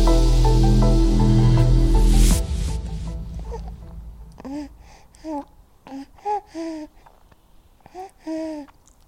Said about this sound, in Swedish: Så det där lilla spädis. Det är min lilla son.